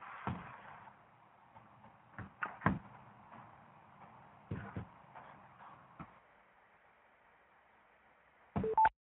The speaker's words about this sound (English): Before we get going, I hear some more beeps on there that maybe people are signing on.